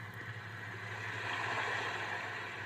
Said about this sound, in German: Ja, das ist Meeresrauschen, das müsstet ihr eigentlich recht gut hören. Und das sind dann so unterschiedliche. Ihr könnt dann mal ein härteres Rauschen machen, also ein kräftigeres oder so wie hier so irgendwo am Ufer.